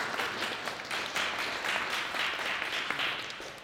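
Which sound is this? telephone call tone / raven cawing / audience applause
audience applause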